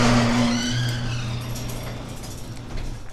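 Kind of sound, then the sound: household object, garage door opening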